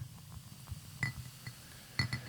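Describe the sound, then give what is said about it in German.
Beer is poured into a glass, a soft low gurgle running throughout with two sharper clinks of glass about a second apart. Fairly quiet, with no voices. “Das darf man auch gerne hören, dass wir es uns gut gehen lassen. Ich näher ans Mikro. Ja. Beim Einschenken.”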